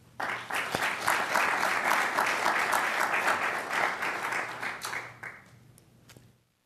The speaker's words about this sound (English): I would like to take a moment to give them a round of applause as well.